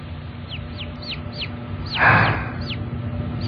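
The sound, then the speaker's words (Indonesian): Baby chicks peep in the distance, a string of thin, high, downward chirps repeating every half second or so over a low background hum, with a brief rustling burst partway through. “Suara anak ayam itu terdengar jauh.”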